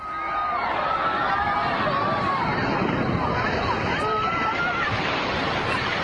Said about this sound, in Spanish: el mecanismo falla y genera una ola de 2 metros que lo arrasa todo